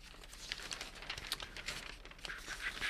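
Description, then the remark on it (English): Soft paper rustling and crinkling as pages are turned, a steady stream of dry crackles and swishes lasting a few seconds with no voices. “Okay, turning the pages here.”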